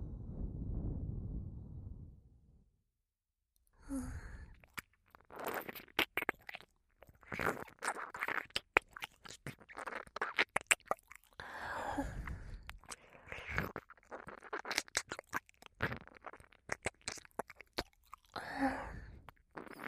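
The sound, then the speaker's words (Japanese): Wet ear-licking mouth sounds at the ear, with steady smacking, slurping and clicking that runs almost continuously after a brief low rumble and a moment of silence. “ねえねえ、耳なめって知ってる？じゃあ初体験ね。”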